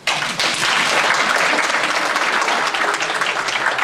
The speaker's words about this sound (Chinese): 那通常看到这种东西的时候，我们大家都要掌声鼓励一下。